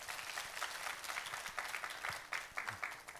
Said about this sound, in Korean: 우리 오늘 찬양으로 영광 돌린 우리 S강남 공동체 박수로 격려하시겠습니다.